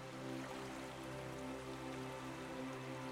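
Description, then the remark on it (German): Water laps softly and steadily against a boat in a cave, a quiet continuous trickling and splashing with a low, even hum underneath and no voices. “Wasser plätschert ganz leise und gleichmäßig an das Boot.”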